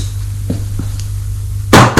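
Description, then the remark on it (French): Two loud knocks on a living-room door land near the end, after a few faint taps over a quiet, low background hum. No one speaks. “on a frappé à la porte du salon.”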